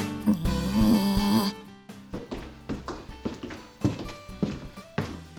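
Steady footsteps thud at an even walking pace as a visitor comes into a home, growing a little louder as they approach, after a brief burst of sustained, droning noise at the start.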